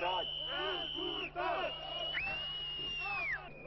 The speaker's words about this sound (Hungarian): Az ünnepi programot néhány száz érdeklődő tekintette meg a Kossuth téri kordon előtt kijelölt szakaszon. A tömeg egy része hangos fügyszóval, sípokkal és a miniszterelnök távozását sürgető jelszavakat skandálva követte nyomon a zászló felvonást.